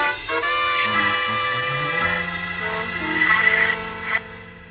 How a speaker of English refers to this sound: I got outside, piled into my car, and took off.